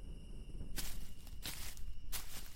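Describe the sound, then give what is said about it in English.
Three heavy, crunching footsteps land at a slow, steady pace over loose ground across a campsite, each a sharp gritty burst, with a faint high insect drone and low rumble in the background. “Footsteps crunched across the campsite so loud it sounded like a Neanderthal could have been dragging his club.”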